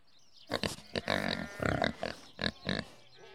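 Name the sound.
pigs oinking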